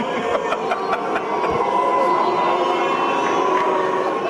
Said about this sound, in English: You can't first applaud like hell and then shout.